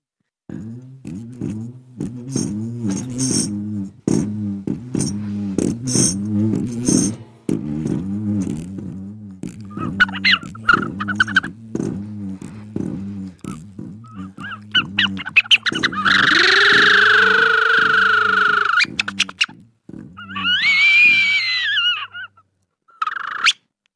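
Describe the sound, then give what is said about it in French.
At Zingaro, a single voice improvises the sound of a passing caravan: a steady run of rhythmic, throaty pulses, then assorted honking, squawking animal-like calls and a long nasal wail, all without any talking. “si je vous donne un thème, caravane. Vous voulez que je vous fasse une caravane?”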